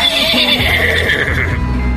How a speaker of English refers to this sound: This is a horse. This is the horse sound.